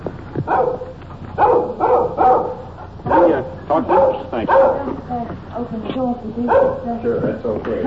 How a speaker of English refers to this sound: This little dog following us, keeping at a safe distance. He's making an awful lot of noise for a little fella.